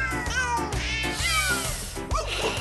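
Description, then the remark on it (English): Recorded cat meows, pitched and sequenced into a tune, sing out one after another over a steady, bouncy bass accompaniment, loud with no talking. “Tell us what you think about ….”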